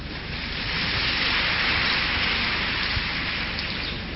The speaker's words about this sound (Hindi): देखो आप सबका व्यक्ति के जीवन की बात मैंने बाबा को बताई, इसलिए आप सबने अप्रूवल की तालियां बजाई।